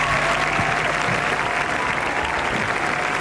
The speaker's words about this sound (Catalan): així que m'agradaria fer un aplaudiment col·lectiu per tota la gent que està involucrada en aquesta feina i en tots aquests títols. Gràcies.